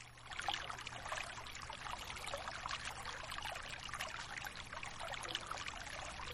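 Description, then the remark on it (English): Water pours and trickles steadily, a continuous bubbling flow with small splashes throughout, moderately loud with no voices. “Just listen to the water.”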